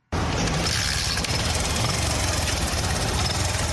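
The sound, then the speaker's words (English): A car engine idles steadily with a low, rumbling drone and a faint knocking texture at a gasoline petrol station in Juba's Katur neighborhood where motorists fuel their cars, continuous and fairly loud for the whole few seconds, with no voices present. “The gasoline petrol station in Juba's Katur neighborhood was ordered to close down, but motorists are still able to fuel their cars here.”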